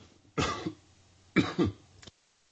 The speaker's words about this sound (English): Let me use my cough button.